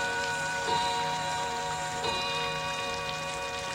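Steady rain falls continuously, a dense hissing patter with occasional louder drops, fairly loud, with a faint steady tonal hum beneath and no voices.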